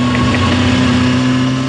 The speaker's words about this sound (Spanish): una buena bulchaco metralla con el tubo de escape bien cortado para que haga más ruido.